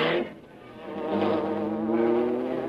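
A steady, droning engine buzz with a wavering, insect-like whine, rising slightly in loudness and holding a sustained hum throughout, with no voices: the engine of the Black Beauty, the Green Hornet's car, driving off with police taking after it.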